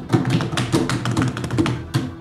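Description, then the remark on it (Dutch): A short burst of applause from a small group for last week's contest winner on the Grand Prix Radio show F1 aan Tafel, with uneven, fairly thin clapping that keeps a steady level for about two seconds and has no voices over it. “Applaus.”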